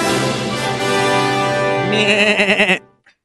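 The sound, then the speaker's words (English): A person clears their throat in a drawn-out, nasal, wavering sound that closely resembles a goat's bleat, ending in a rapid quavering flutter before cutting off, with a faint click afterward. “Excuse me, I was just clearing my throat. Was that a goat sound”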